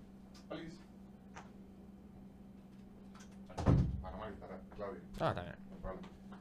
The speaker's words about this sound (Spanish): Voy a cerrar la puerta.